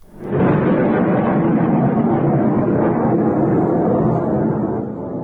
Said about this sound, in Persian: انفجارهای مهیب بار دیگر مصیاف در استان حمای سوریه را به لرزه درآورد.